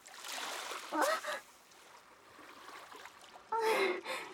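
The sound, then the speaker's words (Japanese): A steady hiss of rushing water as a sudden wave surges in and washes up, with two short gasping, honk-like vocal bursts rising loud above it. “急に波が来てびっくりしましたね。”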